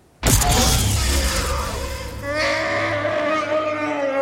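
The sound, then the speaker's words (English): A loud, tortured roar from Chewie (Chewbacca) bursts in abruptly and sustains, harsh and grinding, then shifts into a higher wavering wail with rising and falling tones toward the end. “But I'm pretty sure he does roar first, which I think is important.”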